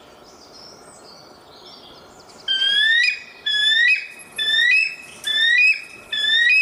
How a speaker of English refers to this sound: There you go. Bald Eagle sounds.